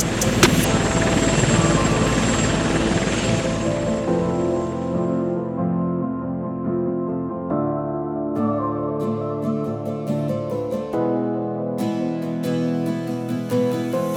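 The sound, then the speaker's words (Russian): A helicopter carrying war dead from Ukraine to Russia: its chopping rotor roar fills the first few seconds, then fades as it flies off, giving way to steady music with sustained tones and crisp percussion ticks. “Улетает грузом 200 с Украины на Россию вертолет.”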